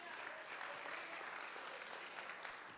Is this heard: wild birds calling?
no